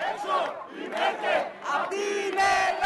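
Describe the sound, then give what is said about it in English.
A crowd of about 40,000 people in Athens, Greece, protesting Merkel's visit, chants slogans such as "Get out of Greece, Merkel" in unison, loud rhythmic bursts of many voices rising and falling roughly every half second, with dense shouting throughout and no single voice standing out. “They shouted, "Get out of Greece, Merkel," and it was one of the milder sentiments heard from the 40,000 people protesting her visit.”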